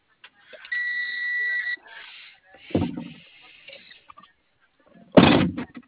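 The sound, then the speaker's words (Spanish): A door opens: a steady electronic buzz for about a second, then a heavy mechanical clunk, and later a second loud bang as it shifts or shuts, fairly loud with no talking. “Ya abrí la puerta, ya se lo...”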